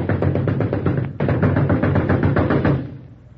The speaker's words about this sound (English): And here we are at the front door of the story shop. Now you step up and rap on the door. And when the story teller answers, he'll get a big surprise. Now you'll rap real hard.